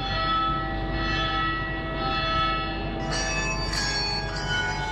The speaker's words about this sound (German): Sonntagmorgen in Trichur, im indischen Bundesstaat Kerala. Im Halbstundentakt läuten die Glocken von mindestens einem Dutzend Kirchen.